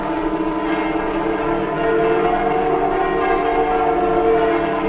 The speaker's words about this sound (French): Les cloches! On entend les cloches de notre quartier.